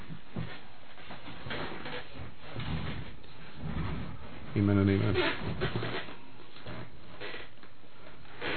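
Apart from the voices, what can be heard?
squeaky chair creaking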